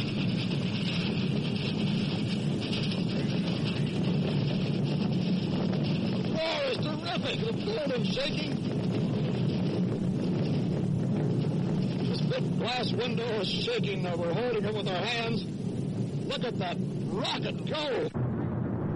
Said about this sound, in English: That was Walter Cronkite, usually a calm observer of world crises, as the commotion of Saturn V's blastoff threatens to shake apart the booth where Cronkite is reporting the launch for CBS.